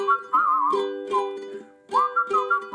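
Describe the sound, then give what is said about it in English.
Bright, warbling whistles like little birds chirping, in short melodic phrases with brief pauses, riding over steady low sustained tones. Fairly loud, with no talking. “The two little birds were whistling about something and nothing and anything.”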